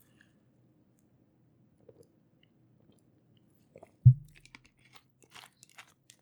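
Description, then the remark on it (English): A soft thud as a drink is lifted, then quiet wet sipping and swallowing sounds with small clicks of the mouth, spread over a couple of seconds with no talking. “So I got this handy dandy burners right here that I need to take a sip for.”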